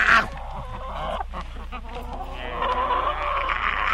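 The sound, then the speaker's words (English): A chicken squawks sharply at the start, then keeps up a steady, agitated clucking and cackling for several seconds, with no one talking. “And here comes the first chicken.”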